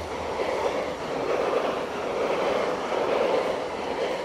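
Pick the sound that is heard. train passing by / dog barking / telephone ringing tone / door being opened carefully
train passing by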